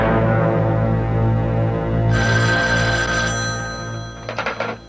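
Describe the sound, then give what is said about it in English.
An old telephone bell rings loudly in an office, one long ring followed by a shorter burst, over a steady low hum with no one speaking. “would you mind answering the phone?”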